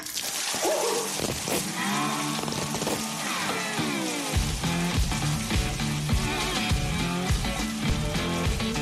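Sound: shower water running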